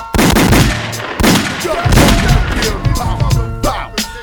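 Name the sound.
rapid gunshots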